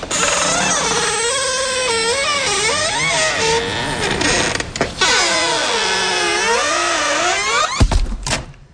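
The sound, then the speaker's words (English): A very squeaky door creaks loudly and at length, its high, wavering squeal bending up and down in pitch for several seconds before ending with a brief knock. “The squeakiest door in the world?”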